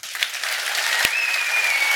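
A crowd claps steadily, a dense wash of many hands applauding for the whole stretch, with no voices over it, as an audience votes by clapping for which story it wants to hear.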